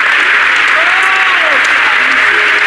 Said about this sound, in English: Praise the Lord. Let's clap our hands on the Lord and praise Him right now.